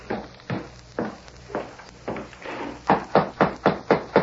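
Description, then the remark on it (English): Someone knocks on the wooden door of a ranch house, first a few evenly spaced raps, then a louder, quicker run of about six firm knocks, with no voices. “The masked man and the Indian dismounted and knocked on the door.”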